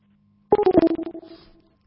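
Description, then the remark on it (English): A rapid burst of about a dozen electronic telephone beeps after a call is hung up, fairly loud, fading toward the end after a brief near-silent start, with no voices. “Hang up the phone. Hang up!”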